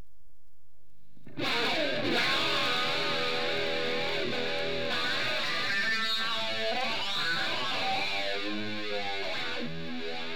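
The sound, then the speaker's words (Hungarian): A distorted electric guitar plays continuously after a brief silence, its gritty, sustained tone swept by a whooshing flanger effect that swirls through the notes. No voices are present. “Ebben a hangzásban az elektromos gitár hangját torzító flanger és harpi módosítja.”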